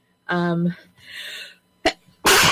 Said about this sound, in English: Oh my gosh, excuse me. I got all excited there for a second, and the next thing I know, I'm sneezing y'all's ear. So, sorry about that.